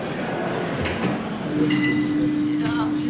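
Glass bottles of ice-cold Union beer clink together a few times, bright, over a steady background of room noise and murmur, with a low hum entering partway through.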